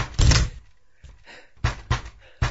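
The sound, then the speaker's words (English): A series of heavy thuds against a blocked, flimsy door: one loud booming hit followed by several more forceful blows at uneven intervals, as someone bashes through it. “He has blocked the door, but it is flimsy and easy to break.”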